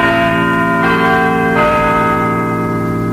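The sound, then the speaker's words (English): The large bells of Little John, the Nottingham City Clock, chime, their deep tones ringing out and overlapping as each new strike sounds over a sustained resonant hum, with no voices present, signalling that BBC Radio Nottingham is on the air. “And the chimes of Little John, Nottingham City Clock, signal the fact that Radio Nottingham is officially on the air.”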